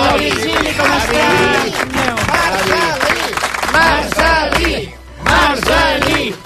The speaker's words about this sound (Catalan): Un aplaudiment.